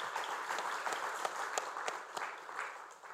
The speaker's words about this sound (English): Before we break out, I think I would like that we all of us give a big applause to our speakers, because it was a challenge to do this in 4 minutes. So thank you.